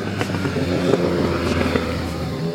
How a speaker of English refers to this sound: Ooh, that was a full-on motorcycle, full size.